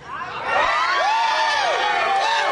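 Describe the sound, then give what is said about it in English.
A group of striking Communications Workers of America union members from SBC chants and cheers loudly at an early hour in downtown Cleveland, Ohio, to TV cameras and passing cars, many overlapping voices forming a continuous roar with rising and falling shouted tones that swell after a quieter first half-second. “Despite the early hour, the group enthusiastically chanted to TV cameras, passing cars, and a few rabble-rousers leaving a local bar across the street.”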